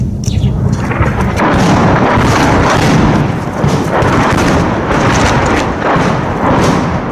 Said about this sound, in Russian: Отработали 2 урагана, 2 града по нам отработало. И это продолжается постоянно. Это продолжается с 5 утра. Я всем показываю, что... И вот, вы слышите, в данный момент работает град по нам.